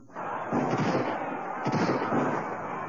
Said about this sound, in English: Oh, God! This is another volley being fired.